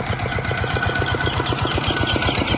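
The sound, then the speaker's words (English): Tractor engines chug steadily at night as Cambodian villagers and their families flee atop them with their belongings, a loud, even rhythmic knocking that holds without a break, with no voices over the mechanical drone. “On the other side, in the dark of night, a stream of Cambodian villagers and their families fled atop tractors, loaded up with their belongings.”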